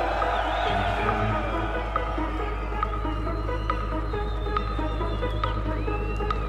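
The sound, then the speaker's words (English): A large concert crowd screams and cheers in a steady, dense roar, with shrill whoops cutting through and a low throbbing rumble underneath, holding at a loud level throughout. “And if you're still having a good time, let me hear you scream.”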